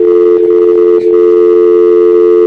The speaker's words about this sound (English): It's not dialing, I think. I don't think that worked. I don't think. We still have the dial tone.